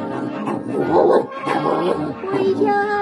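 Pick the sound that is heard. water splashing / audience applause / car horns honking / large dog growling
large dog growling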